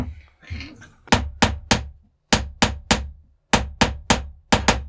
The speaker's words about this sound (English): What I think would be good is if you gaveled to the tune of Jingle Bells.